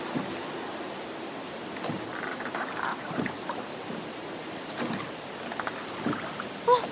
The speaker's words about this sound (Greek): Τα κύματα είναι τόσο άγρια που η βάρκα δεν υπακούει! Πάει προς τα μέσα!